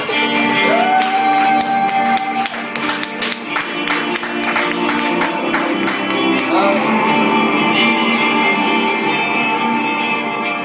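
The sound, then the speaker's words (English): An audience claps and cheers for about ten seconds to welcome a guest introduced on a show, with dense, steady applause and shouts on top, easing slightly toward the end but continuing throughout. “Everyone put your hands together”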